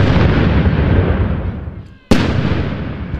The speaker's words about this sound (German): Ja, und es gibt Salutschüsse, ne?